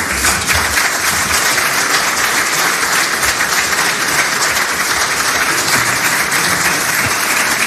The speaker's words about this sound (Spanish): Bueno, pues en el ambiente tan tirante de ayer, los pelotas de Sánchez arrancaron con aplausos apenas terminó el fiscal general.